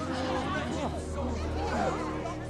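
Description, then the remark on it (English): A crowd gathered outside a front door murmurs steadily, many voices blending into an indistinct babble, with overlapping speech rising and falling at a constant moderate loudness and no single voice standing out. “Winifred opens their front door and sees a crowd outside.”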